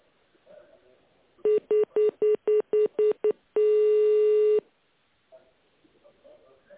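Eight quick touch-tone keypad beeps in an even rhythm as an employee's internal extension is dialed in tone mode on a road-construction office's phone line, followed by one longer steady tone, loud over faint phone-line hiss.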